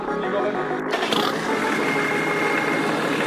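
A car engine idles steadily, a loud, continuous mechanical hum with a faint rattle running under it for the whole few seconds.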